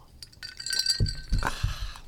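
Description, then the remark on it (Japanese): Beer glasses clink together a few times in an evening toast, bright ringing tones with soft knocks and table bumps underneath, no talking. “今夜も乾杯しましょう”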